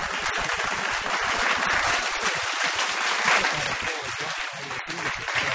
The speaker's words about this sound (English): Some more of that applause.